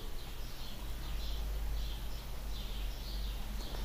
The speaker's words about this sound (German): Also noch ein bisschen Vogelgezwitscher für euch.